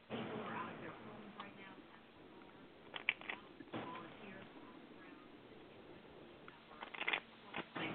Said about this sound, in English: And I shuffle the cards until my hand tingles. Usually it can take anywhere from one shuffle to 10 or 11.